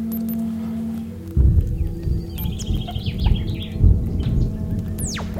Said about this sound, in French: On entend des oiseaux.